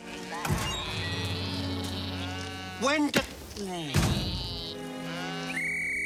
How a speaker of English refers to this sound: As she blows on her whistle, a flock of sheep in the field dutifully trot up the lorry's ramp into the back.